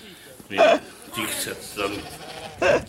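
Two short, wavering sheep bleats ring out fairly loud, about two seconds apart, with quieter murmuring background noise filling the gap between them.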